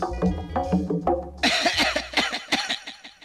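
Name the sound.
coughing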